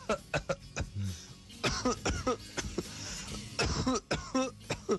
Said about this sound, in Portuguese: Vai tossir pra lá, meu.